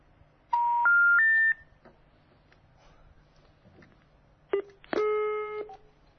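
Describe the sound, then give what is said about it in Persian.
A short run of three rising electronic phone tones, then after a quiet pause a brief beep and a longer steady telephone tone with harmonics, as a number is redialed after reaching a free line. No voices. “یه خط آزاد دیگه تکرار شد. بله. مجدد میزهیم تکرار.”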